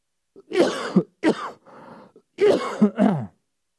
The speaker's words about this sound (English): Excuse me, I have to cough.